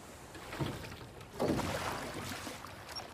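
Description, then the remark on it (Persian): A swan pedal boat churns through the water, with a steady wash of splashing and paddle noise that swells midway and continues without voices. “داداشی زود باش، قایق قو داره میره.”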